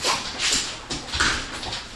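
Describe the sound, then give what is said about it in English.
A dog named Fredsters whimpers softly while shuffling and moving about, with brief scuffing and rustling sounds over a couple of seconds and no one speaking. “You a good dog, huh Fredsters?”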